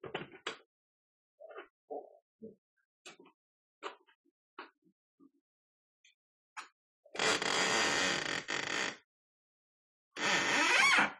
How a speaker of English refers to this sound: That's not a haunted house creaky door. That's Spirit Song opening our window a little bit.